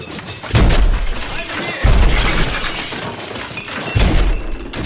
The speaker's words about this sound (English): Well, there are two different shots. The shark actually was hitting the hull of the boat, right?